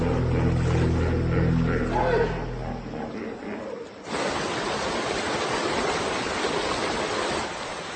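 Deep, resonant territorial bellowing from a displaying bull hippo, calling to other males, rumbles over rushing water of the Zambezi River for the first few seconds, then fades, leaving only the steady roar of flowing water.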